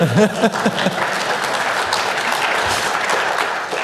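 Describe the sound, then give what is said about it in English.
A steady burst of audience applause, many hands clapping in a dense, even wash of sound that holds at a constant level throughout, with a brief voice at the very start. “Oh, please applause. No, seriously, applause.”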